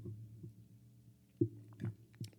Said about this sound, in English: let me take a sip for this one